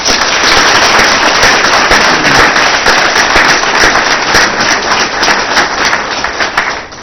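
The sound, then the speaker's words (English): Loud, dense audience applause for a Mount Eagle Junior High performance at an evening event: many hands clapping at once in a steady crackling roar that holds for several seconds before easing off slightly at the end, with no voices. “So let's give them a big hand and thanks for your time this evening.”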